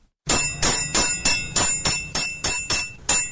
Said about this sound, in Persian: در کارگاه تاریک و سرد حلبی سازی تالقان مرکز ولایت تخار، صدای چکش های رستم 68 ساله هنوز هم در میان سکوت بازار می پیچد